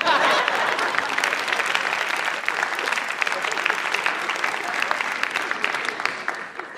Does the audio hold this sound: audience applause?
yes